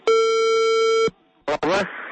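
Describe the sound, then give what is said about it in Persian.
A single long, steady ringback tone of an outgoing call from Radio Azadi to a mobile phone plays for about a second, loud and clear, then cuts off; after a brief silence a voice answers and talking begins. “خوب حالا بید به یک رقمی موبایل زنگ میزنیم.”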